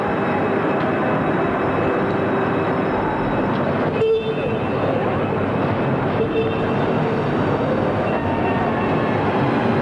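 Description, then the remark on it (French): A train pulls away from platform 1 of a station, its loud, steady rumble and rattling wheels filling the whole stretch, with a brief high whine rising out of the noise partway through. “Et le train est parti.”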